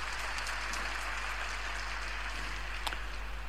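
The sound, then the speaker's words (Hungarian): A crowd applauds steadily, a dense, even patter of many clapping hands sustained throughout at moderate level, with a low electrical hum underneath and no voices. “Köszönöm a tapsot”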